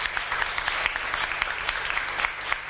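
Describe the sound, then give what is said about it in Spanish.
Sustained audience applause, an ovation for the seven candidates of the 2024 festival art gala at its official presentation, a dense steady patter of many hands clapping with crisp transient spikes, fairly loud and continuous throughout without any talking over it. “De nuevo, ovación para ellas.”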